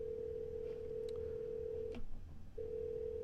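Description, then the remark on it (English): A steady electronic telephone tone drones on, interrupted by a couple of faint clicks and a short gap before it resumes, with no voices, as a number is dialed to call a cell phone. “I'm dialing that number, and soon here comes the ring, and you'll see the last four digits.”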